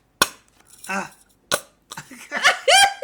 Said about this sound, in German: Ah. Hörst du das? Das ist Pupshonig.